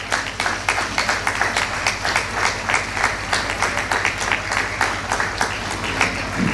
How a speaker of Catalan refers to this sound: Sense elles seria molt difícil que siguin possibles les festes, per no dir impossibles. Un fort aplaudiment per a tots ells.